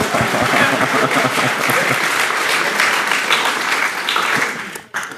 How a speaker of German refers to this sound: Ah, nee, es ist angekommen. Applaus für das Snog.